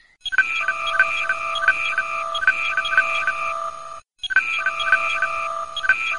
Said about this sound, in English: But when the phone and the tablet go, it's kind of annoying. When you get several messages in succession, both devices make a storm of notifications. Oh, the horror!